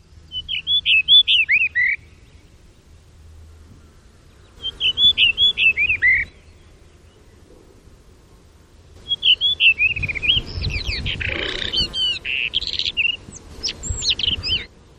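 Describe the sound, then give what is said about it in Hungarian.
Rufous-tailed rock thrush song: three bursts of clear, fluty warbled phrases, with the last phrase longer and richer, mixing varied whistles over faint background rustle. “Milyen érdekes, hogy a kövirigó az egy nagyon sikeres madárcsoport.”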